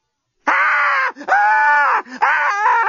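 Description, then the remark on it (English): A woman tied down to a bed lets out three loud, sustained screams in close succession, each breaking off briefly before the next, harsh and anguished, with no other sounds around them. “Screamed Lucy.”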